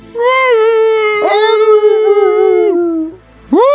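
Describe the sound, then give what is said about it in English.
A dog howls loudly in one long, sustained, wavering note that rises slightly and then falls away, followed after a brief pause by the start of another howl. There is no talking. “Jesus, the dog is loud.”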